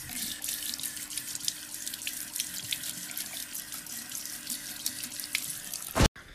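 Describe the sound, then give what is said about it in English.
Loud, continuous rush of crashing water waves, a dense steady wash with no voices, running for about six seconds before cutting off abruptly. “Suddenly, huge waves started crashing from all sides of the house.”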